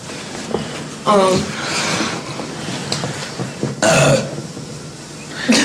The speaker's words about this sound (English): Dude, we're gonna do clips of you burping. Cause I've got like 20 of them.